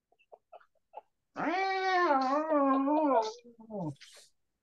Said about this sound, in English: And strangely, you hear the same sounds that Mel hears from her cat coming from under that towel.